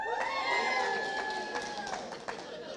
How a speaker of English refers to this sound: This side, very quiet. I'm going to say to this side, there's got to be some cheering and going crazy.